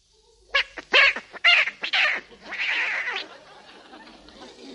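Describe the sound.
A human voice imitates a yowling cat as part of a set of farmyard animal impressions: several sharp, strained squeals in quick succession, then a longer wavering wail that fades out. Fairly loud, with no other sounds.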